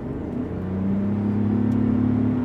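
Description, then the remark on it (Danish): A car engine accelerating at full throttle while driving uphill on a country road in Tuscany, its low, smooth hum climbing gradually in pitch and growing slightly louder over a couple of seconds, with no voices present. “Fordi når jeg træder speederen i bund om et øjeblik, så vil I kunne høre, hvor lidt motoren den støjer.”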